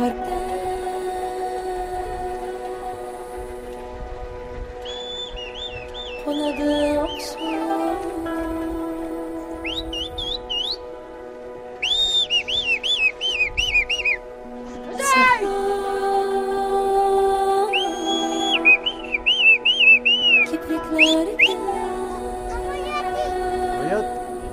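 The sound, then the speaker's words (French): A shepherd boy on the Jailo calls his sheep with high, warbling whistles in several short bursts of rapid trills, over a steady bed of lower droning tones and sheep bleating all around. “C'est un petit berger qui appelle ses moutons.”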